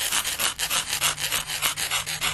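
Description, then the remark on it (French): Scratching on a car roof: a quick, steady run of about ten harsh, rasping strokes, each a bright scrape, repeating back and forth with no voices. “Comme si ça grattait sur le toit de la voiture.”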